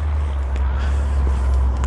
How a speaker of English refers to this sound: Anyway, you can hear the heavy equipment. I'm not exactly sure what the heck they're doing over there, but they're making a lot of noise